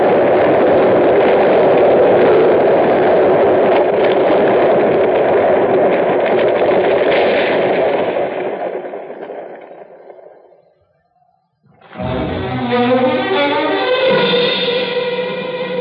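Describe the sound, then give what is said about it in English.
A loud, sustained roar of rock and mud tumbling down a canyon, set loose by a rifle shot, rumbles for several seconds, fades away to near silence, then a second heavy avalanche bursts in abruptly with a harsher, layered rumble. “Look out. Another avalanche.”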